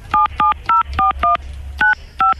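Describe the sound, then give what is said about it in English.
Seven short dual-tone phone keypad beeps as an ID number is punched in during a call to customer service, in quick succession and fairly loud, with brief gaps between presses and a low background hum underneath. “Tell me what your ID number is. Don't punch it in on the phone.”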